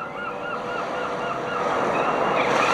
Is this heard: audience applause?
no